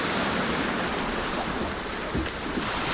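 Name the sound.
sea waves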